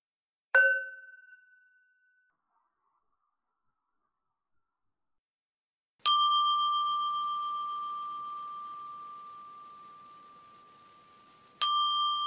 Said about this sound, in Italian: Dopo questa preparazione, portiamo la nostra attenzione ai tre suoni di campana.